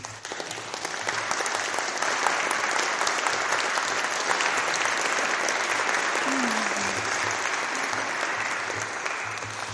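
Steady audience applause, many hands clapping in a dense, even wash that swells quickly and holds at a strong level for the whole stretch before easing slightly at the end.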